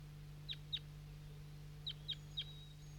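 A bird gives short, sharp chirping calls, two in quick succession and then three more after a pause, clear above a steady low hum, as a person heads up a hill with it at about 7 a.m.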